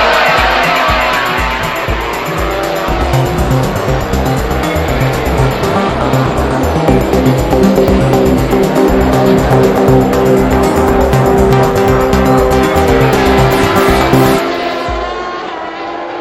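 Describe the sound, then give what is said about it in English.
Racing motorcycles in a motorcycle road race roar off the start together as the lights go out, engines screaming loudly and climbing in pitch as they accelerate, a dense howl of several machines that cuts off near the end. “The lights are on red. We're away.”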